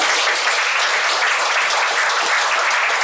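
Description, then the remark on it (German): Steady applause from a live audience for a professional footballer, a dense, even patter of many hands clapping at once with no voices rising above it. “Ja, ich glaube, das ist ein kleiner Applaus wert, ne?”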